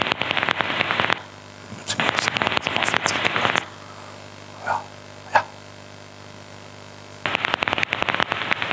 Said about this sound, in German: So würde es sich im Heterodyn-Detektor, also in dem normalen Fledermaus-Detektor anhören, wenn ich eine Wasserfledermaus höre. Und in diesem Fall haben wir sogar Sozialrufe mit dabei von der Wasserfledermaus.